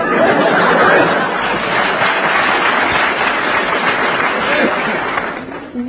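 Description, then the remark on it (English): A studio audience claps steadily, a dense, sustained wash of applause that holds fairly loud for several seconds before thinning slightly at the end, with faint chatter and chuckles mixed in. “They're either applauding, hoping we are dying, or they're like that last joke.”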